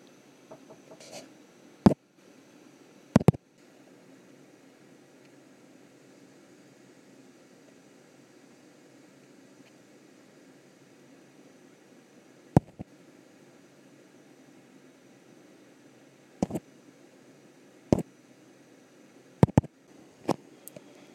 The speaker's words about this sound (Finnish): Tämä on ihan kiva laivahytti. Yllättävänkin kaiuton tila, että kyllä täällä sinänsä pystyisi vaikkapa ihan oikeaa haastatteluakin tekemään. Ainoa, että toi ilmastointi suhisee melko voimakkaasti.